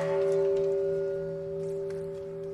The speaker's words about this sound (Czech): A svake godine na ovaj dan u Ujedinjenim nacijama se oglasi i japansko zvono mira.